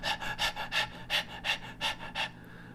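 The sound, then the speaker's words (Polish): A person imitates a dog panting to show that dogs pant rather than sweat like humans: about eight quick, breathy huffs in a steady, rapid rhythm, airy and hissing, with no speech, trailing off at the end. “Bo psy nie pocą się tak jak my. Psy dyszą, robią...”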